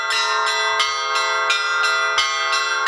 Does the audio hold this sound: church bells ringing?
yes